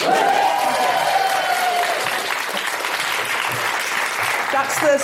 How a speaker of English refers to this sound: I'm so happy you've come out because we're only allowed 80% capacity, so we're sold out. No, when I say sold out in a post-pandemic world, you need to clap.